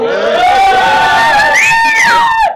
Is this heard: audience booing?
yes